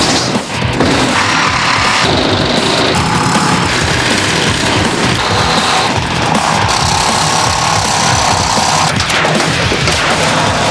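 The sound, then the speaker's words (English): A power tool cuts off the rear body panels of a vehicle to lighten it, a loud, continuous harsh grinding and rattling roar, steady for the whole stretch, and no one speaks. “I'm going to take most of the back off. I'm taking the racks out now, and then I'm going to take this rear door off.”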